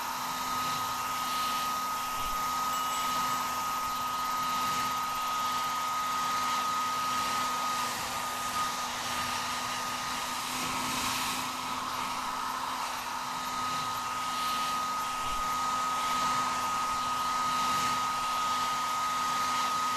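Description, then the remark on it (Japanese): A hair dryer blows steadily for the whole stretch, a constant whooshing roar with a thin high whine running through it and no voices. It is used to blow away small bits of cut hair after a fringe trim. “よし、ドライヤーで細かい髪の毛飛ばすね。”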